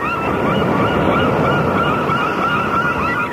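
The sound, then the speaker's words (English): A nature-sounds relaxation recording: a steady, loud wash like surf or wind, with a flock of geese honking almost continuously over it. No one speaks. “Do you hear that? That's a relaxation tape.”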